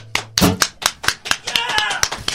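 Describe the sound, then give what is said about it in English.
A sparse golf clap: a few scattered, polite hand claps in an uneven rhythm, about a dozen sharp slaps over two seconds, with a faint tonal murmur underneath. “Yeah, that sounds like a golf clap, really.”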